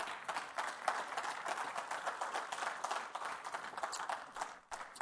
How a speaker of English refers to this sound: How many can say amen to that? What if we give a clap offering to the Lord?